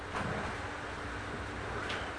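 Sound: chairs being moved around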